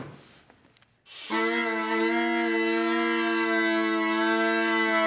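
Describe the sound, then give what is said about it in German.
A steady, buzzing drone (the bordun) from a homemade bagpipe with pipes of electrical conduit tubing from a hardware store and reeds cut from plastic sheet protectors starts abruptly after a second of faint noise, then holds one unwavering, harmonically rich pitch loudly to the end. “Das ist jetzt eigentlich aber nur der Begleitton, der Bordun, sagt man ja.”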